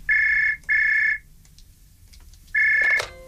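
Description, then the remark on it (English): An old-style telephone rings in a double burst, a pause, then starts another ring that cuts off. The tone is loud and buzzy, with no voices. “That's the kind of phone she had, isn't it?”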